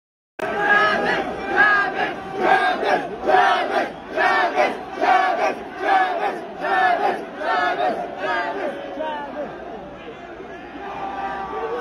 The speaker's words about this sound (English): But if you listen, you can hear the crowd screaming for a medic. It's very chilling.